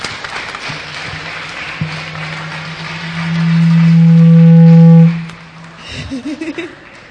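A crowd applauds steadily for several seconds while a loud, low droning tone, like microphone feedback, swells up midway and cuts off before the clapping fades.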